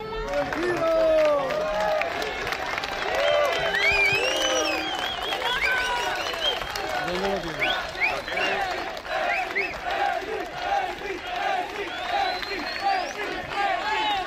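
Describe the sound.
A dense crowd of fans cheers and shouts continuously for club president Florentino after autographs and photos, chanting "presi, presi, presi", many overlapping voices rising and falling with high-pitched yells, steady and loud throughout.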